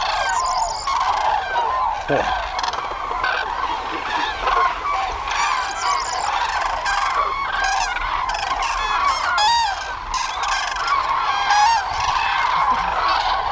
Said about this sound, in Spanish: en el horizonte al atardecer, ya contra el cielo gris, decenas de miles de grullas grises que se van